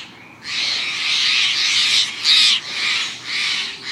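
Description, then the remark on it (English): A blue jay gives its alarm call, announcing the approach of a predator: loud, harsh, raspy screams repeated about five times in quick succession, the first drawn out longest, with no talking. “These daring blue dandies sound the alarm, announcing the approach of a predator.”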